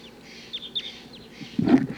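A flock of crossbills gives short, repeated chip calls around a capture net after one bird has been caught, overlapping in quick bursts, followed by a louder, fuller flurry of calls and rustling toward the end.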